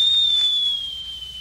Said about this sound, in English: My teapot's whistling.